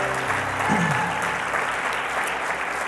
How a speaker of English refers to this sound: And if you really welcome the Lord, why don't you give him a round of glorious applause? Hallelujah.